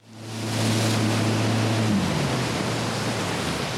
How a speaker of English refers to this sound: head out on the waters of Lake Minocqua in a Mastercraft X24. It's a boat designed for wake surfing.